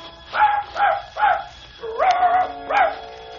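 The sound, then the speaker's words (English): A dog named Wolf barks in a quick run of three high, yelping barks, then lets out a longer, drawn-out whining bark and one more short yelp. No voices accompany it. “To climb high in the clean air, a well-oiled gun in hand, and wolf beside me.”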